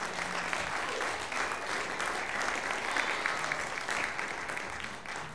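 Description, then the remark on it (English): An audience claps steadily for several seconds for the sponsors Lewis and Associate Financial Services and Leadership Learning Systems, a dense, even wash of many hands applauding together at a consistent loudness with no voices standing out. “Can you give them a big round of applause?”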